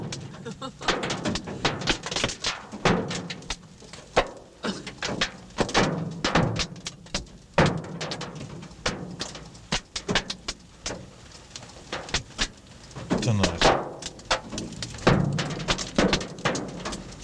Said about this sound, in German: Der Hagel in Bournemouth.